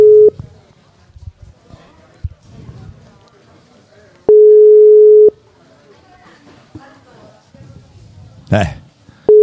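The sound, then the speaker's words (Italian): A steady telephone ringing tone on an outgoing call to a hairdresser sounds in long one-second beeps spaced several seconds apart, loud and clear, while people talk quietly in the background between rings. “Vadi passo con la telefonata.”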